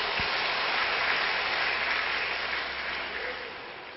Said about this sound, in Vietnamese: Xin tất cả hãy dành cho tràng pháo tay để tán dương.